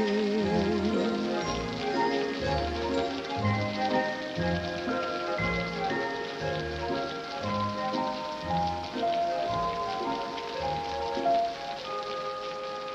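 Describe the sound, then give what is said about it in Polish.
Steady rain pattering continuously on a hard surface in a 1952 film scene, blended with a lively orchestral melody that keeps rhythm throughout, with no talking. “dancing and singing in the rain.”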